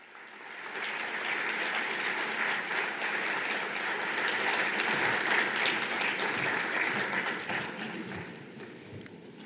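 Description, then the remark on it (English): A sustained round of audience applause following a speech by Minister Prasad on the internet, dense and steady clapping from many hands that swells slightly in the middle and stays loud for nearly ten seconds with no talking over it. “We all applauded at the emphasis on multi-stakeholder and the support for it.”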